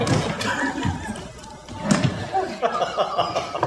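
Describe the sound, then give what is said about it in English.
A chair is moved away to get rid of it, with a few hollow thumps and knocks, one heavier bump partway through, while someone laughs softly in the background. “We could get rid of this chair.”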